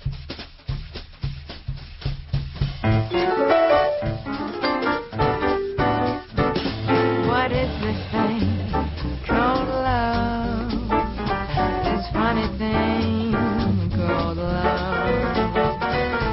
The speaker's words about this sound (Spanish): Estoy escuchando un tema precioso, pero ni sé cuál es, pero alguien me va a ayudar,